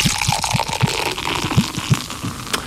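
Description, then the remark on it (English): Beer pours into a pint glass, with a steady run of low glugs about three per second over a bright, fizzy hiss of liquid, and no voices. “Now pour me a pint.”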